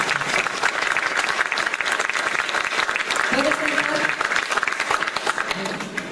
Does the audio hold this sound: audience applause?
yes